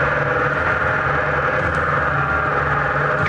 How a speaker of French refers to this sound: Moteur électrique. Moteur électrique. Ok.